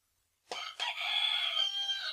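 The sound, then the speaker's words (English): A single loud rooster crow starts abruptly after a brief pause and holds a strained, sustained note to the end, clear with no other sounds around it. “A rooster grenade.”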